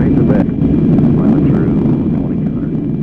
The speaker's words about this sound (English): Immediately following a news conference in Little Rock, General Wofford jumped in a Black Hawk helicopter and flew north to Fayetteville.